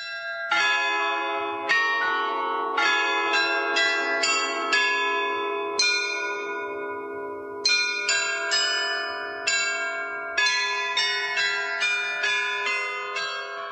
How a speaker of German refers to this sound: Jede Stunde erklingt im Turm der Loretto-Kirche auf dem Hradschin ein Glockenspiel. Mehr als 100 Jahre lang hatte es die immer gleiche Melodie. Das hat sich aber nun geändert.